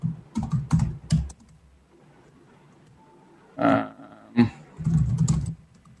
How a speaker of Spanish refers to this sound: Vamos a ver si me da chance de teclearlo.